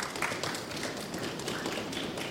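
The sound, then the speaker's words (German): A live audience stomps their feet together in a classic stamping, a dense, continuous rumble of many overlapping thuds and taps for a couple of seconds. “zu Hause hören, dass ich hier nicht alleine sitze, würde ich unser Publikum mal kurz bitten, wirklich durch so ein ganz klassisches Trampeln vielleicht mal zu zeigen, dass ihr wirklich viel zu viele seid, als dass wir im Archiv heute sitzen könnten.”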